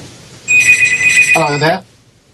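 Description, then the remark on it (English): A telephone rings with a bright, trilling electronic tone for just over a second, fairly loud, and a brief voice overlaps the end of the ring. “You might want to take any phones you have there off the hook, mate.”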